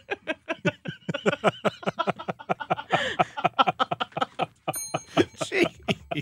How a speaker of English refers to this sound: Where's the bell?